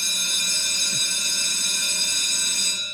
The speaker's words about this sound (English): Hey, oh, you know what that means, that bell. Although it's a little early today, I was calling for it because, Tim, you couldn't be more on cue. Today's bell rings, and every day the bell rings to let us know that it's today's democracy in action.